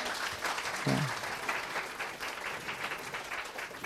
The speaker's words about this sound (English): Let's give my wife a round of applause.